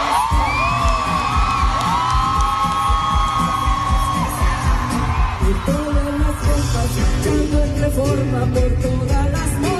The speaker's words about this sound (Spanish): Vamos a gritar fuerte para que nos escuche el presidente y nos escuchen en todo el mundo. Por todas nuestras compañeras, vamos a gritar fuerte. Todas, que nos escuche el mundo.